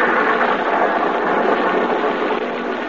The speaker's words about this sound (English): Another night, a lonely country road, a car. We're in the south.